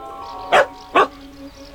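A dog barks twice in quick succession, two short, loud barks about half a second apart over a faint steady background hum.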